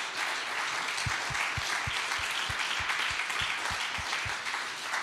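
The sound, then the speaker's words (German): A crowd at a church service applauds the technician steadily, a dense wash of many hands clapping at an even, sustained loudness, with a few rhythmic low thumps running underneath. “Und gib dem Jürg mal einen fetten Applaus hinter.”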